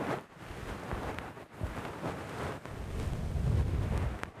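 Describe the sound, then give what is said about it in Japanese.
Soft fluffy bonten ear-pick tuft rubbing and brushing against a microphone near the ear, its hairs catching on the microphone; a muffled low rumbling broken by a handful of sharp, irregular crackles and pops. No voices. “このパチパチって音がマイクのところ、マイクこの近いところ、耳の近くに梵天の毛が引っかかる音なんですよ。”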